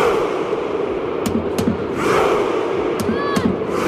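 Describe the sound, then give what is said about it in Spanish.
Hundreds of Norwegian football fans roar steadily while a few sharp, booming hits cut through at spaced intervals, the slow drumbeat and shouted claps of the Viking Row war chant performed in unison. “Viking Row, el grito de guerra de la afición noruega que está siendo tendencia y causando sensación.”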